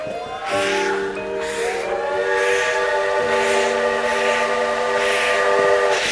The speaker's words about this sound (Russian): Поезд пришел весь белый, дымящийся снегом от вьюги.